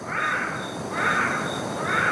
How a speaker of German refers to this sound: Ist das ein Buschbaby? That's a Buschbaby. Das ist ein Buschbaby. Yeah. Das hört sich ja wirklich wie Babygeschrei an. That right there was probably das war ihr bekanntester Ruf, der Kontaktruf.